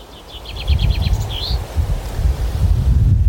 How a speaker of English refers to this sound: There's a breeze today.